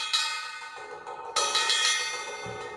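A drumstick with a black polycarbonate tip strikes a cymbal bell several times, each hit ringing out bright and metallic and overlapping the last, the strikes ranging from hard hits to quiet taps. No voices are heard.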